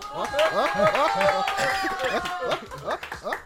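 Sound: crowd applause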